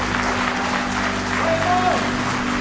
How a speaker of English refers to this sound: Give him one more hand clap of praise in the house of the Lord today.